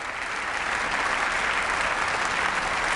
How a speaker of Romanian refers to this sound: Președintele ucrainean a fost ovaționat în picioare în Bundestag pentru intervenția sa video.